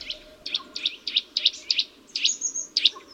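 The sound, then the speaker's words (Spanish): A Eurasian nuthatch on an oak trunk, climbing down it head-first, repeats a bright, piping call in a quick, even series of about eight notes, clear over a soft background hum. “A medida que vas subiendo la vista por el roble, te irás encontrando con varias aves curiosas, como este trepador azul, que baja por el tronco boca abajo en una pose muy acrobática.”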